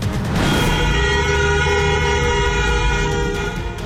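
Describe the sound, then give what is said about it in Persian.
A dense, sustained blare of car horns, honked in protest on the 20th night of protests in Iran, holds steady for several seconds, loud and continuous, with a rumbling low-end wash like traffic beneath; no voices stand out. “بوق‌های ممتد خودروها در 20 شب اعتراضات ایران.”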